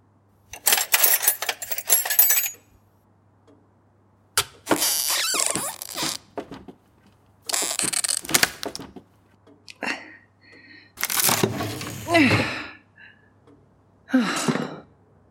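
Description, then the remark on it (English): A drawer is yanked and forced until it breaks, in a series of loud, harsh rattling and scraping bursts, about six jolts separated by short pauses, with breathy straining sighs mixed in. “Sorry I broke your drawer.”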